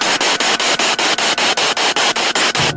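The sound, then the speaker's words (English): Loud, steady radio static hisses across the whole clip, broken by quick regular dips that give it a pulsing, popping rhythm. No voices. “Just the popping and hissing.”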